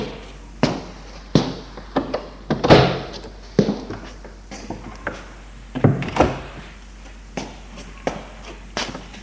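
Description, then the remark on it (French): A bedroom door being handled and opened: a run of sharp, irregular knocks, clicks and wooden thumps, some louder than others, spread across several seconds with no one speaking. “Ouvre la porte de sa chambre.”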